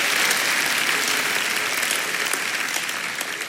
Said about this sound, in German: Ja, Applaus, toll. Super.